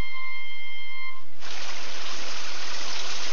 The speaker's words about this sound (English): The monsoon. It's been raining in India like that for the past 30 hours. The Ganges River is flooded and Benares is under 9 feet of water.